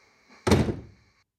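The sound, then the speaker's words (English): A door is pushed shut with a single solid thud, preceded by a faint rustle of movement and followed by a brief low rumble that quickly fades into quiet room tone. “Let me just shut the door.”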